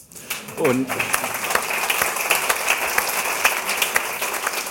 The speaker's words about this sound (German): Und Sie wissen gar nicht, wie schön sich so ein Applaus anfühlt in dieser schönen Halle, in diesem schönen kleinen Saal der Stadthalle. Und ja, tut auch mal gut, gelobt zu werden.